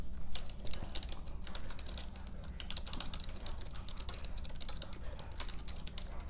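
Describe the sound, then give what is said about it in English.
Steady, rapid keystrokes on a computer keyboard, fairly quiet, with a low background hum and no voices. “And excuse me, just doing some typing here on the side.”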